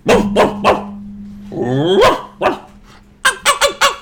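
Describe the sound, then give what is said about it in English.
A comedian imitates a dog during a comedy bit, barking in loud bursts: a few quick barks, a drawn-out whining yelp, then a rapid run of sharp barks. “After about 15 or so minutes worth of dog impressions, he finally gets back to the point.”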